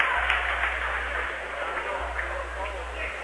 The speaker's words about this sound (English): Dengler's going to foul out in overtime with 35 seconds left. Nice round of applause for Dengler.